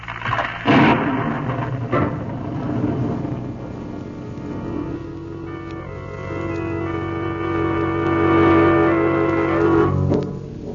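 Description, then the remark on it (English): A stormy wash of rumbling thunder and heavy rain from a storm breaking over the Dark Cliff Inn, with a sharp crack near the start, rolling on continuously beneath a sustained droning musical tone that swells toward the end. “The storm that broke over the Dark Cliff Inn hit the city 50 miles away half an hour later, drenching dark streets and alleyways as well as the lighted windows of Miss Margot Lane's apartment.”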